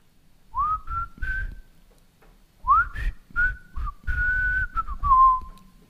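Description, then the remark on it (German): A person whistles the intro tune of a TV series, a short melody of two phrases of rising and sustained notes separated by a brief pause, clear and fairly loud with no talking. “Ich pfeife jetzt mal die Intro-Musik zu der Serie, die ich heute mitgebracht habe.”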